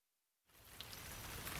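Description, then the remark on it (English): Steady rain on a warm day begins abruptly after a moment of near silence, a dense, even hiss of falling drops with a few brighter splashes, fairly loud, with no voices. “It's warm today. It's rainy, too.”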